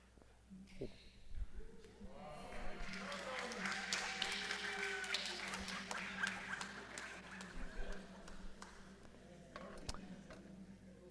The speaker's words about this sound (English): I tasted the sarcasm in that clap. It doesn't taste that good.